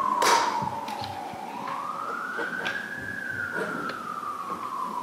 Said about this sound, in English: We hear ambulances and fire engines going by every day, many times during the day. And if you're selected as a juror in this trial, we'll be seated in the courtroom across the hallway. We will hear it even more.